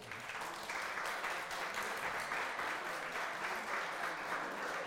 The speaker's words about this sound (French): Merci à mes 4 co-animateurs. Vous pouvez les applaudir, public.